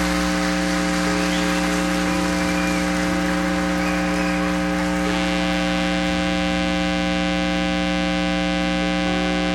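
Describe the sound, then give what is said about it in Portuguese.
An audience applauding the Lord in a dense, steady wash of clapping that lasts throughout, with a sustained droning tone running underneath and no one speaking. “Aplauda o Senhor, querido!”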